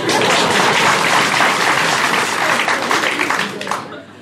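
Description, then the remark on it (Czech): An audience breaks into loud, sustained applause for the citizens who read the book, a dense crackle of many hands clapping at once that holds steady for several seconds before tapering off. “Žádám potlesk pro naše občani.”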